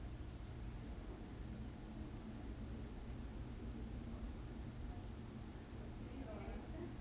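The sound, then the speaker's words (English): Ocean waves wash steadily onto a sandy shore under a clear, sunny sky with a warm, light breeze, in a continuous, even roar with a deep low rumble, the surf blending into a constant hiss rather than distinct separate breaks. “The sound of the waves beating against the shore echoes in the air.”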